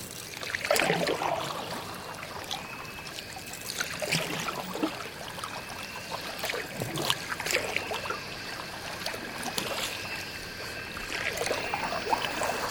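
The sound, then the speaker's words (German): Paddles dip and splash as dugout canoes, eight people to each, are paddled down a river toward a jungle trail, at an irregular, unhurried pace, with trickling and dribbling between strokes and a faint steady chirr of insects in the background. No one speaks. “Wir müssen ein Stück den Fluss herunterrudern, um zu unserem Dschungelpfad zu gelangen.”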